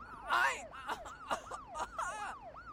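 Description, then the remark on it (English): An ambulance siren wails in quick, repeating up-and-down sweeps, fairly loud, as the ambulance approaches, while people's voices break in over it. “Okay, ambulance is almost here. I see the lights.”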